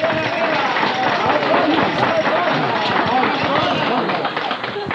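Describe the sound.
An audience at an evening event applauds a champion of worldwide peace steadily for about five seconds, a dense, crackling wash of many hands clapping at an even loudness, with a faint murmur of voices mixed in, tapering slightly at the end.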